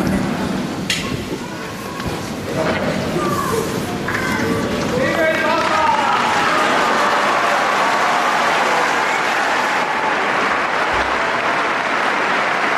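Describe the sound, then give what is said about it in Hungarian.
Loud, sustained applause from a large crowd greeting the Pope at the close, a dense continuous roar of clapping with scattered voices and cheers mixed in, filling the whole stretch without pause. “Kedves Mária Rádió hallgatók, a szokásos módon, a szokott módon hatalmas taps viharral zárul, köszöntik a Szentatyát is, és ha valaki esetleg még követi YouTube-on, az láthatja, hogy a jelenlévő méltóságok is köszöntik most a Szentatyát”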